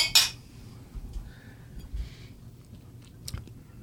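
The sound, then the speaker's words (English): A sharp, bright clink of glasses of rum distilled with Mackinac Island fudge striking together in a toast near the start, followed by quiet rustling and handling noises, with a fainter tap a few seconds later. No one speaks. “So raise your glass. Cheers to Jesus.”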